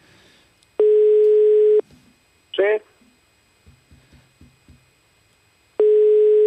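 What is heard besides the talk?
telephone ringing tone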